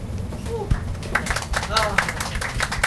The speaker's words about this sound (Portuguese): Obrigado. Obrigado pelas palmas espontâneas do público, galera.